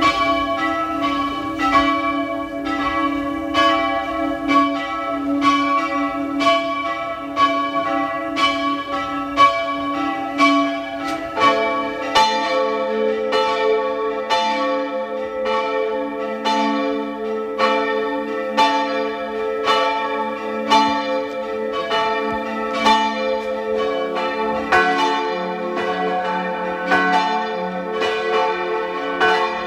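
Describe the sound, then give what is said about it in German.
The bells of the parish church of St. Vitus in Fulpmes, Tyrol, ring at 12 noon, steadily, their overlapping strikes forming a continuous, resonant peal with shifting tones, full, with no voices present. “Sie hören die Glocken der Pfarrkirche zum Heiligen Veit in Fulpmes in Tirol.”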